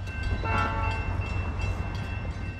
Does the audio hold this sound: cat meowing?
no